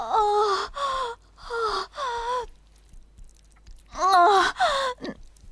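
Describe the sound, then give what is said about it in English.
A person groans in pain in short, strained, voiced bursts: four in quick succession, a quiet pause, then a louder cluster of two or three more, with no words. “That wasn't a yell. That was just a groan.”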